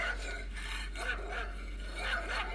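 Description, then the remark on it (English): A dog barks four or five times in quick, uneven bursts, the sound thin and tinny, played from a device held in someone's hand, fairly faint over a steady low hum. “She's going, all right, that dog bark is coming from your hand.”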